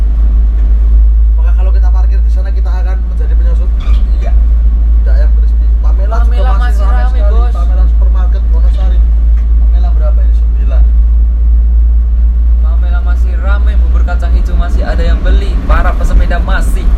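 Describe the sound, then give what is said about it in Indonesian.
Steady low rumble of car traffic on a street in Wonosari, continuous and fairly loud throughout, with voices talking over the engine noise. “Tapi bukan mobil yang sama, banyak sekali di sana.”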